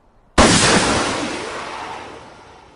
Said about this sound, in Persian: وایسا، اول باید گلوله دود و شلیک کنیم.